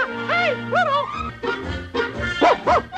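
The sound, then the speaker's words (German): Mickey Mouse's cartoon dog barks and yips about six times in close succession, the high, bouncy barks loud, with no talking. “Astrologen rechnen ihre Horoskope um und Walt Disney tauft noch im Entdeckungsjahr den Hund von Mickey Maus.”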